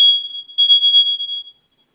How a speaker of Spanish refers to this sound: Sí, mire, es que como tal, ya ese detector de humo ya le hacen falta baterías, por eso está sonando.